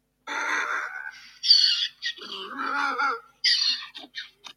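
A loud, harsh donkey bray, alternating rasping high wheezes with lower honking groans over a few seconds and trailing off in short, choppy gasps. No other sounds.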